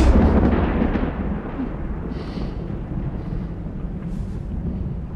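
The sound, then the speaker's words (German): A deep, heavy roll of thunder from a thunderstorm that starts loud and slowly fades into a long, low rumble, with no voices present. “Und eines Tages wurde sie von einem Gewitter überrascht.”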